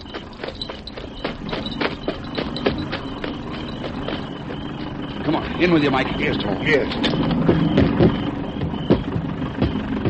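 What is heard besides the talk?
airplane engine running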